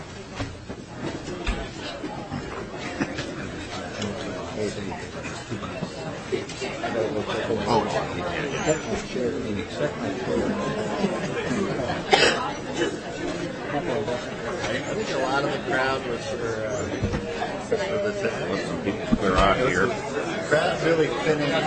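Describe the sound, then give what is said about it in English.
Steady murmur of many overlapping voices as a crowd chatters and shuffles out of a legislative hearing room, a dense, continuous babble with occasional louder bursts and faint clicks of movement. “We'll take a minute here to let the crowd thin out if you're leaving, but please be quiet while you are leaving if you can so we can quickly get on to the next bill.”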